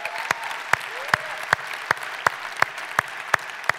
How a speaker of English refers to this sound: Would you just give those folks a shout out by way of applause?